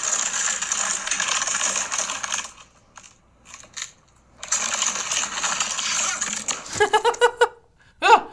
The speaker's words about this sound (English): It's... a trash can full of dog shit dragging across the cement and me tripping backwards and fearing that it would fall on me.